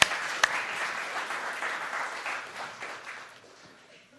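An audience applauds the sound technician running the sound desk alone for the first time, dense, steady clapping that holds for a few seconds, then gradually thins and fades out toward the end.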